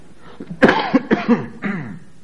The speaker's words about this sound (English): You see, I really do have a cough. Somebody thought I was setting you up tonight so I could stay home and watch the football game.